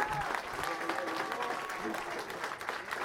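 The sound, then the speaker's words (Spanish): Steady applause from an audience for the committee of CONUR Coyoacán en Resistencia fills the space, a dense wash of clapping hands that stays fairly even throughout, with some voices murmuring underneath. “Tenemos al comité de la CONUR Coyoacán en Resistencia. Un aplauso para ellos.”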